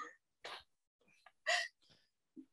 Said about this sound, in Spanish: O sea, cuarto eructo. Listo. Eso, y ese eructo se lo merece.